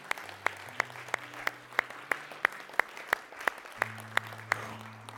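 An audience in a Methodist church claps together as a clap of praise to Jesus, in a steady, even rhythm, sharp hand claps landing about three times a second over a sustained low hum of music underneath.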